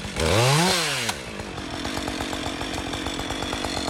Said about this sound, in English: That's Forest Ranger JP wielding the chainsaw there. He's just chopped a segment out of a fallen branch of yew.